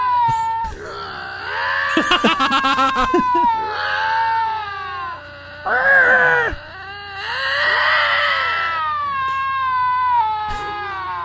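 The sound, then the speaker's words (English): Cats growling at each other in long, wavering yowls that rise and fall in pitch, broken by a quick stuttering burst and a harsh, hissing spit midway. “That one on the right just sounds like he learned to growl today.”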